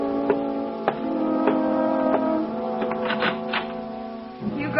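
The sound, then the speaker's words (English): A kitchen clock ticks at a steady, even pace, each tick crisp but moderate, layered over a sustained tonal musical drone with no one speaking. “Glance at the kitchen clock.”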